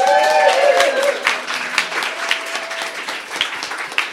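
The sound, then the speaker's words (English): A live audience at the Fringe Queer Film and Art Fest applauds steadily, dense overlapping claps at moderate loudness, with a few faint whistles or cheers early on and no speech. “And thank you, the audience, for making this happen. Applaud yourselves.”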